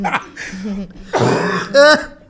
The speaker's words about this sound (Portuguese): Também preciso tossir, calma. Eu tô dando umas tosse. Ah, calma aí também. Porra. Ah, não, cara, a Covid acabou com a minha garganta e saúde.